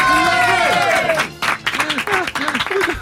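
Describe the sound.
An audience applauds with dense, steady clapping that keeps going, mixed with cheering and excited voices; a brief sustained tone rings out at the start.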